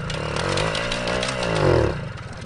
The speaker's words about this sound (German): Das ist die Zündapp ZX25. Also nochmal treten und die Zündapp knattert und qualmt fröhlich los.